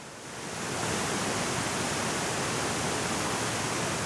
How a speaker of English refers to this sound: This is big, gnarly white water. The 30-foot waterfall in front of me, the paddlers call it 50-50. The name speaks for itself.